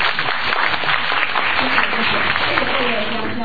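Steady, dense applause from an audience, a continuous wash of many hands clapping at even loudness throughout, fairly close and filling the whole moment without a break.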